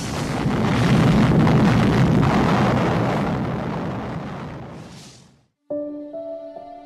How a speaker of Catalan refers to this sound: Enola Gay va deixar anar la bomba des d'una altura de 9.450 metres i 43 segons més tard, quan el cap nuclear era a 600 metres d'Hiroshima, la van fer detonar.